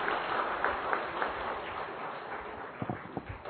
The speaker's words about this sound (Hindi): Thank you so much. सभी को अच्छा लगा तो एक बार दीदी का दिल से थैंक्स करते हुए हम जोरदार ताली बजाएंगे।